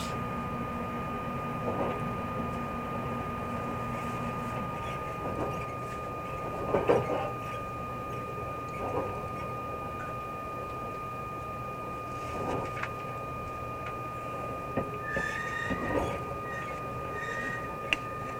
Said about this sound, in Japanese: まもなく鳥栖に着きます。佐賀、肥前山口方面、佐世保行き普通列車は13時55分、3番乗り場から発車します。